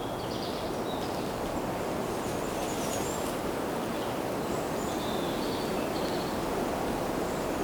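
Steady, broad background wind noise rushes continuously, a soft even whoosh with a low rumble and no pauses, with faint high bird chirps drifting through at moments.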